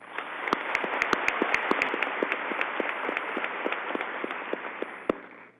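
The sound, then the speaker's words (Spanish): Sustained audience applause, a dense wash of many hands clapping steadily for several seconds, with a few sharper, louder claps standing out before it fades at the end. “A ellos un aplauso.”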